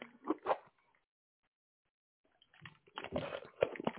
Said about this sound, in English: Forgive me, I need a drink. I need this water.